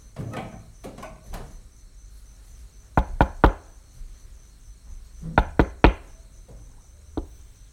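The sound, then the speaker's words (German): Sharp knocks on a wooden door at the top of veranda steps, at night, come in two groups of three, fairly loud, with a faint, steady insect-like chirring running in the background. “läuft die Stufen der Veranda nach oben, um an die Tür zu klopfen.”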